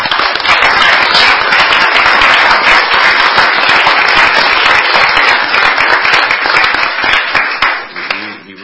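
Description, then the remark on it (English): A crowd applauds loudly and steadily for a Maryland state budget secretary recently honored with the Career Achievement Award from the National Association of State Budget Officers, a dense wash of many hands clapping that holds for several seconds before thinning out and fading at the end. “So I want to give him a big round of applause.”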